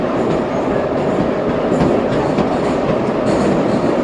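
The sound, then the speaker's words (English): A loud, continuous rumble of a subway train rattling along the tracks, with dense low-end roar and faint metallic clatter, with no voices. “Which makes the windows are open to the subway, which adds a little air to the place.”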